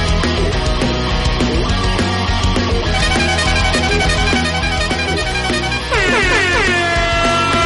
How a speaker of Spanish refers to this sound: dale fuerte a esa bocina, que es viernes, que es viernes.